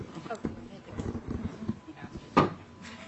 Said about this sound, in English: We're adjourned? No. We passed the bill. We passed the bill. She was gaveling for the bill.